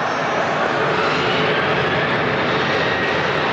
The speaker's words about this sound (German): Ein wackeliges Video eines privaten Radiosenders zeigte, wie die Präsidialmaschine vom Flughafen Tunis abhebt.